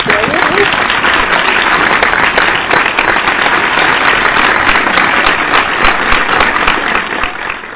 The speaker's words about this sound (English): Oh, I love that. I love that. That is really, let's give him a little hand clap.